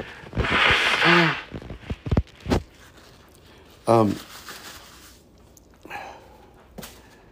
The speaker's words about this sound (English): Let me go grab a tissue. I probably should have done this before I started the podcast. Forgive me as I blow my nose.